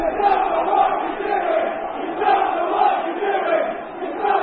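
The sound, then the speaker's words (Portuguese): A large crowd of Chelsea fans chants "You don't know what you are doing" at their coach Sarri during a 4-0 loss to Bournemouth, in unison, a steady, rhythmic roar of many voices rising and falling in waves throughout, loud and continuous with no single voice standing out. “Era o grito dos adeptos do Chelsea.”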